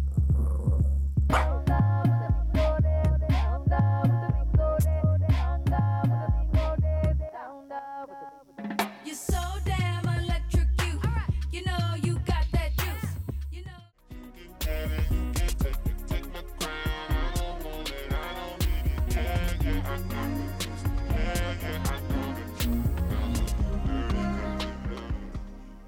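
An upbeat pop song plays loudly throughout, with a punchy steady beat, bright synth chords and sung vocals, briefly thinning out for a moment before the full groove returns.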